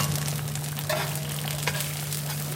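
Chinese egg pancakes sizzle steadily on a hotplate at a roadside stall in central Shanghai, China, a continuous crackling hiss with a low electrical hum underneath and a couple of brief scraping clinks, no voices.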